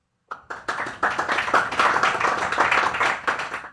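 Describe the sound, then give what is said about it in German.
An audience claps for Köln (Cologne) in a clap test. The clapping starts with a few scattered claps and quickly swells into steady, dense applause, holding loud and even until the end with no talking. “Klatschtest Köln.”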